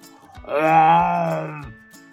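A tiger's roar: one drawn-out, moaning cry lasting just over a second, held at a steady, fairly deep pitch, loud against quiet, then fading away. No one speaks.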